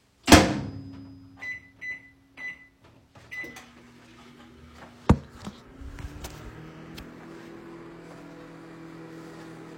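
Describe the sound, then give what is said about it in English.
A microwave door thumps shut, a few short keypad beeps follow, then the oven starts up heating a breakfast burrito with a steady low electric hum and a faint rattle, with no talking. “That means we're entering the true desperation zone. And that is this microwave breakfast burrito.”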